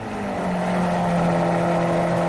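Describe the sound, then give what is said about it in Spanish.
A Lamborghini Aventador sports car's engine, up to 770 horsepower, roars with a steady, deep drone that swells slightly louder over a couple of seconds, its low rumble and rasping overtones holding a constant pitch, with no talking. “Venga, el preferido de Pedro Sánchez, el Lamborghini Aventador.”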